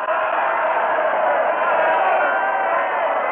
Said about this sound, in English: They are milling around us like cattle that smell death. The whole square is whirling and turning and shouting.